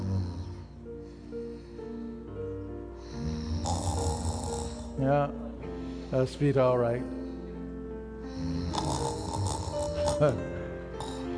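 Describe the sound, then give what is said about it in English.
A man's voice imitates loud, rasping snoring, several drawn-out snorts in a slow rhythm, prominent, with brief speech before and between them. “I can imagine that he was busy snoring.”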